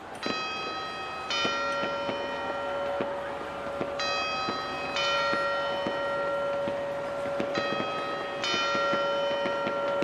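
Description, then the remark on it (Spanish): The clock tower carillon at Puerta del Sol chimes a repeating phrase of ringing bell tones before the midnight bells, heard moderately loud over a steady hum with faint regular clicks, and no one speaking. “¡El carillón se baja! ¡Ahí está! ¡Bien, ahora sí! ¡Bien, el carillón!”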